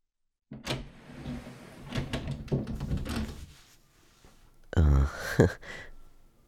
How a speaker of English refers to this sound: Well, here we are. The door just locked shut, so...